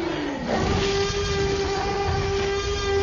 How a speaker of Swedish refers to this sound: Kommer du ihåg den första Jurassic Park-filmen? Ja, absolut. Mm. Du kanske kommer ihåg hur den stora dinosaurien är, Tyrannosaurus Rex, hur den lät när den skrek.